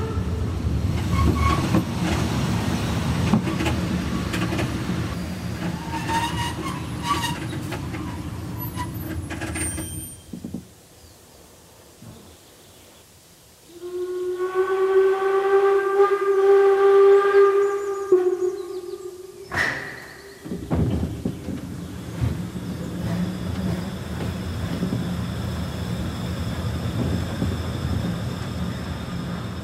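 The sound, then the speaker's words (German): A train rumbles along with a rolling, rhythmic clatter, goes quiet briefly, then lets out a long tonal whistle before the heavy rolling noise resumes and continues steadily as it rolls into Niederschlag station. “Und dann rollen wir rein in den Bahnhof Niederschlag.”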